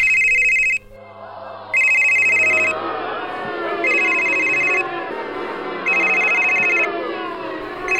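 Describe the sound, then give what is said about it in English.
In an opera house during a performance of a Baroque opera by Henry Purcell, a loud electronic mobile phone ringtone trills from the back row in four regular bursts, cutting sharply across a steady backdrop of operatic singing and orchestral music that continues beneath it. “Suddenly, somewhere from the back row, the silence is broken.”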